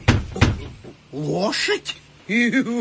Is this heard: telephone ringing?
no